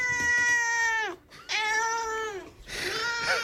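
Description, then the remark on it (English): A cat in a studio meows loudly, two long drawn-out cries that each slide down in pitch at the end, followed by a shorter, rougher, breathier yowl. No one speaks. “Now, why do we have cats in the studio?”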